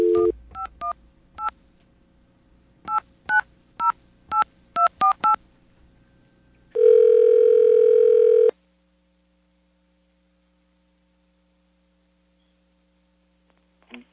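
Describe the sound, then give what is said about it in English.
A brief steady dial tone gives way to about eleven quick, evenly pitched touch-tone beeps dialing a Bell Atlantic caller ID test line in uneven bursts, then a loud, buzzy two-second tone before near silence. “Okay, we have a caller ID test, and this is a good one.”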